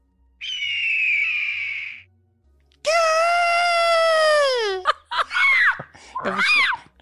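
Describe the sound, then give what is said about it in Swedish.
A gyrfalcon call: a harsh, raspy screech lasting over a second, followed by a long, loud, drawn-out wailing cry that slides down in pitch, then several shorter rising-and-falling shrieks. “Då lägger Michelle, vår fantastiska klippare, in en jaktfalk Och så ser vi vem som lät som den närmast.”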